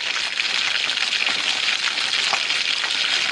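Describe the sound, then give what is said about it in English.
An alarm, set with an app and played by an attachment plugged into the bottom of an iPhone, mimics crackling bacon: a steady, dense crackling sizzle like bacon frying in a pan, bright and hissy with scattered sharp pops, holding at an even loudness throughout with no voices. “Then you set your alarm using the app, and at the appointed time, the alarm goes off and mimics the sound of crackling bacon.”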